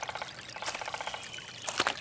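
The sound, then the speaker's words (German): Wet splashing of a foot stepping into a puddle, with two louder sloshing bursts about a second apart over a steady watery trickle. No one speaks. “Ich bin eine Pfütze der Däten. Jetzt habe ich ganz nasse Füße.”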